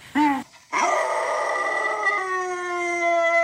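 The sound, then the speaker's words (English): A dog named Rico gives a quick yelp, then breaks into a long, steady, happy howl that holds its pitch for several seconds, played on a phone and sounding slightly thin through its small speaker. “my dog, Rico.”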